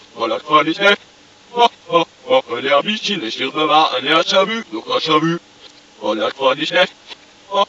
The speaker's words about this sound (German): Doch wenn man dieses französische Kinderlied, das von einer Gans handelt, die von seinem Herrchen entlaufen war und nach vielen Abenteuern tot mit Vogelgrippe in einem See gefunden wurde, umdreht, dann erhält es eine völlig neue Bedeutung